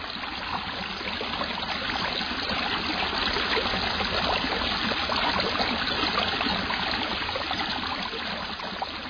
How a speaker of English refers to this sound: On this week's Hudson River Soundscape, we hear an outtake that never made it onto … recording, …. She takes us to the Lower Twin Brook, a tributary of the Hudson near the Adirondack High Peak of Mount Marcy.